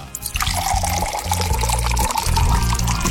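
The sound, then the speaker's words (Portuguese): Morning coffee pours into a cup in one steady, splashing stream for about three seconds, a continuous liquid gurgle at even loudness with no voices. “bora tomar aquele café gostoso, né? Bora tomar o meu aqui, ó.”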